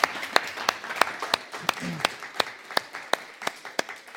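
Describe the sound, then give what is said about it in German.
An audience at a church brunch applauds the people who brought and organized the buffet, dense overlapping clapping with a few sharper, distinct claps at a steady rhythm, moderately loud, sustained throughout. “Ja, an alle, die mitgebracht haben und es organisiert haben, mal einen großen Applaus.”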